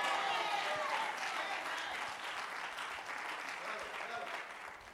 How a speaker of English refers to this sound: Some of you just clapped your hands, but you don't really believe.